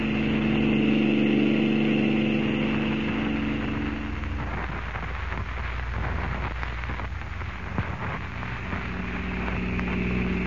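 A car engine runs steadily with a low, droning hum, joined about halfway through by a hissing wash like rain or tires on a wet road. No one speaks.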